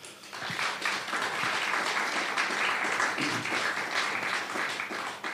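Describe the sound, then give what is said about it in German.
Sustained applause from an audience welcoming two guests onto a stage, a dense steady wash of many hands clapping that fills the whole stretch at fairly even loudness, with no voices standing out. “Bitte einen herzlichen Applaus”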